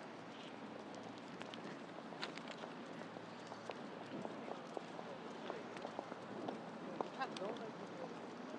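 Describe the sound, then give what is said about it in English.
A boat engine thuds steadily on the river down below, a low continuous throb, with scattered small clicks and footsteps. “You can hear a boat in the river down below. I'll shut up so you can hear the thudding.”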